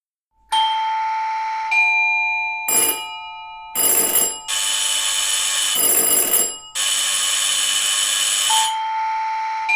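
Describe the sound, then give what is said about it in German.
Shrill doorbells ring repeatedly and loudly at 5:30 a.m. at numerous houses in Freiburg on 22 October 1940, as Gestapo officers and police go through the town to the Jewish households: several overlapping bursts of bright, high-pitched electric ringing with short gaps, no voices present. “Oktober 1940, dem Ende des jüdischen Laubhüttenfestes, schrillen um 5.30 Uhr die Türklingeln an zahlreichen Freiburger Häusern.”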